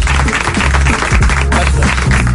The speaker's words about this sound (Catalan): aquest aplaudiment integral és per tu. Gràcies.